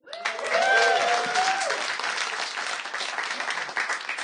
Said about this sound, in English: Thank you for that spontaneous applause.